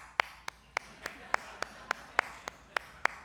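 Someone claps their hands in a quick, steady rhythm, about a dozen sharp, crisp claps with slightly alternating loudness. No one speaks.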